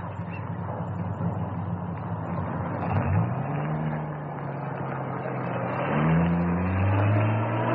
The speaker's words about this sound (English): Ah, here's Ntembu with the truck.